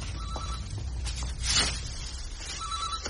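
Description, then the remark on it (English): A telephone rings in two short trilling bursts separated by a pause of about two seconds, fairly soft against a low background rumble, with no one talking. “Dad's on the phone!”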